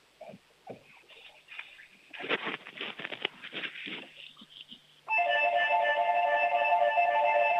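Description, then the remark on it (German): After several seconds of soft shuffling and tapping, a doorbell starts ringing, a loud, steady chime with layered, sustained tones that continues to the end. “Das ist ja eine tolle Türglocke.”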